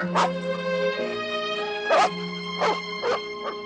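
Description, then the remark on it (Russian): New puppies brought from Kirov to a kennel, led past an old dog named Mukhtar, give four short, sharp yips and barks at uneven intervals over a steady humming tone in the background. “Из Кирова привезли новых щенков. Около Мухтара проводят щенков.”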